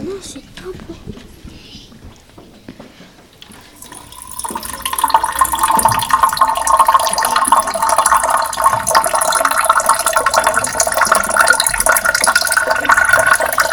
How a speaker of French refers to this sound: De l'eau qui coule. C'est une bonne réponse.